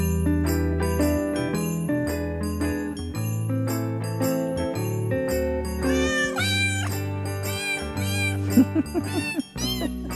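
Cheerful holiday-style music built from cat meows, the meows pitched into a melody. Sustained tones bend and warble near the end, all upbeat and steady with no talking.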